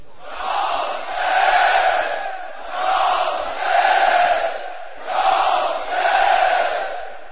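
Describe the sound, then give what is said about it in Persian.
A large crowd chants "Ya Hussein" in unison at the close of a recited praise of the Mawla, a rhythmic two-beat call repeated three times in steady swells of loud, massed voices with no other sounds. “هر که دوست داره آخرش با مدح مولا تموم بشه، صدا یا حسین.”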